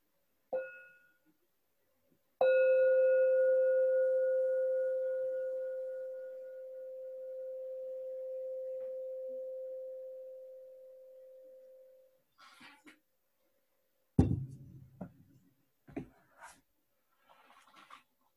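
A meditation bell is struck twice before a reading begins: a brief first tap, then a full ring whose clear, mid-pitched tone sustains and slowly fades over about ten seconds, followed by a few soft handling knocks.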